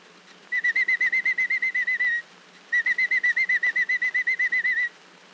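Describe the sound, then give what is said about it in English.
A person whistles an imitation of a robin's daytime chirping: two bursts of rapid, evenly pulsed high notes, about a dozen each, separated by a short pause, clear. “The robin chirps through the day this way.”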